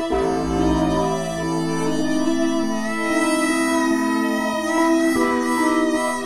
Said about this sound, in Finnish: Kellojen kuminaa, kuuletteko? Dramaattiset kirkon kellot kumisevat.